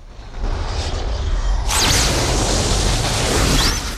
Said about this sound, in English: A fireball forms in the clouds and a bolt of lightning strikes a temple tower, destroying it.